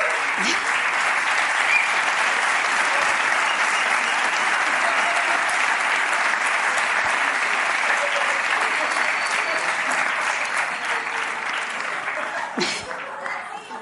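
A live audience claps steadily for about thirteen seconds, a dense, loud crackle of many hands that holds evenly before tapering off slightly at the end.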